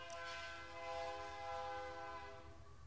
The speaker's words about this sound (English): I don't love that train.